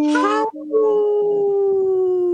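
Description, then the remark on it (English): A wolf howls in a long, sustained, slightly falling tone, breaking off briefly near the start before resuming. Loud, with no other sounds. “There's that wolf.”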